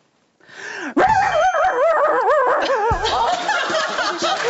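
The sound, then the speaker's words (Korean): A voice imitates a dog howling: a loud, wavering howl with rising and falling pitch, sustained for several seconds with a brief break partway through. “저희는 항상 이게 하우링이 있거든요.”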